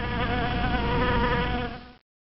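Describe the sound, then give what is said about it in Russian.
A dense, droning buzz of a flying bee swarm holds steady for about two seconds, then cuts off abruptly into silence, with no voices present. “Вот летит пчелиный рой.”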